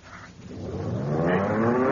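An engine starts up again and revs, its steady drone rising in pitch and growing louder over a couple of seconds, with no voices.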